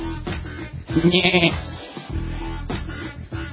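A goat bleats loudly, one wavering, nasal cry with a few shorter bleats around it, set against a steady low background hum and no talking.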